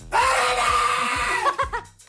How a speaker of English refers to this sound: I also gave it a go, guys. I don't know whether you want to hear that. I was asked by the text line to scream peekaboo.